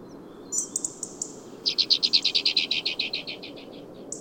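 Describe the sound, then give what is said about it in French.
A pair of alpine accentors chirping on cold mountain peaks: a short run of high notes, then a longer, louder series of rapid, evenly spaced chirps that gradually fades, over a steady low background rumble. “De droite à gauche, tu peux voir un couple d'accenteurs alpins, les plus habitués au froid de ces sommets.”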